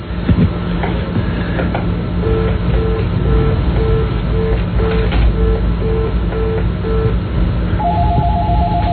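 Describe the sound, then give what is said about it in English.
A telephone rings through a phone line as a steady series of short, evenly spaced electronic tones over a constant noisy hum, then a higher-pitched tone starts near the end. “I was going to say, I think all you're hearing is an open line, but if his phone is ringing.”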